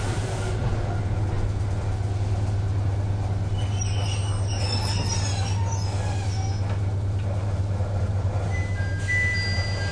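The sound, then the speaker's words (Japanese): A steady, loud electric hum and rumble from a stationary local electric train stopping at every station, bound for Dentetsu-Izumoshi, with faint high-pitched whines and squeaks drifting in midway, continuous throughout with no talking. “この電車は各駅停車の電鉄出雲市行きでございます。”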